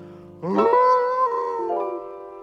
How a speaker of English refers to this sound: And a lonely wolf is howling at the moon.